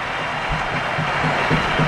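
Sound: stadium crowd applause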